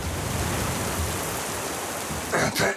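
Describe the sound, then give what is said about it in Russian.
Steady rain, sent by a band, pours onto a hard surface, a dense hiss filling the whole clip, with a couple of brief louder bursts near the end. “Это дождь!”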